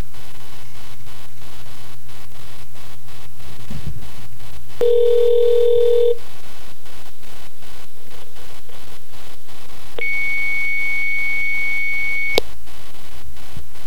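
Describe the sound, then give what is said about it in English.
Telephone tones over a steady line hiss: a long low beep lasting about a second, a pause, then a higher, longer tone, as an outgoing call to a hotline rings with no answer. No one speaks. “I guess we can go ahead and call up our good buddies over there at the Haitian hotline.”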